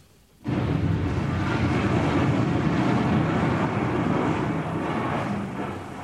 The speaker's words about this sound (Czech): Naštěstí má doktor Hedvábný neustále po ruce svůj oblíbený magnetofon Sonet Duo. A díky tomu máme na věčné časy zachován zvukový snímek onoho historického liptákovského výbuchu. Prosím o jeho spuštění.